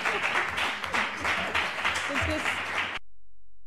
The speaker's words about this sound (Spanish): Y me aplaudo a mí misma.